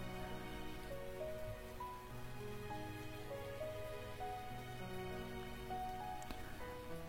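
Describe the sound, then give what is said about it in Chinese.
Steady rain hisses continuously throughout, soft and evenly spread, with gentle sustained musical tones playing underneath. No one speaks. “说话声音跟蚊子一样，雨声都比你说话声音大。”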